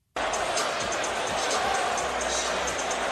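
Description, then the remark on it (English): A Detroit Pistons basketball crowd chants in unison at Jalen Brunson, a loud, dense wall of massed voices that starts abruptly and holds steady for about three seconds. “Here is the Pistons crowd serenading Jalen Brunson.”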